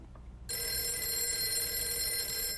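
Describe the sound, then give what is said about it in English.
A telephone starts ringing after a brief quiet moment, a bright, steady electronic trill that carries on loudly through the end, with no one speaking. “Oh, there's somebody on the phone.”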